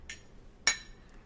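Glasses of Asian premium lager beer clink together in a toast: one bright clink with a brief ringing tone, preceded by a faint softer tap, with no talking.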